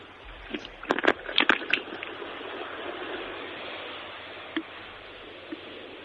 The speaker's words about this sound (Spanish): Coño, que es el mar, de verdad. Oye, está bravo. Claro, que no es un rollo, ¿eh? Que es verdad que es el mar. No. Y hoy está bravucón, me dices, ¿no?